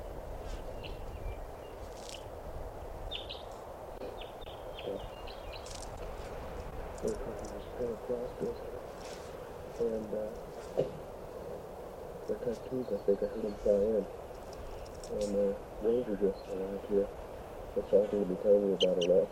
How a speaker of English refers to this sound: Must be 20 birds.